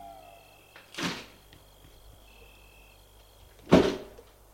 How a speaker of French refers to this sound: Bien, vous pouvez entrer. Il leur ouvre la porte.